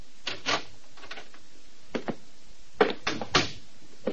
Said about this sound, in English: It was pretty late, and it took quite a while for Mr. Maynard, treasurer of the Mercantile Loan Company, to answer the doorbell. And when he did answer, he only cracked the door an inch.